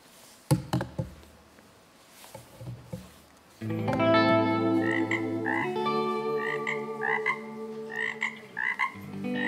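Frogs croaking in a dense, steady chorus, with repeated rhythmic calls layered over a continuous droning hum; a few sparse clicks and taps come first, then the chorus starts abruptly and stays loud.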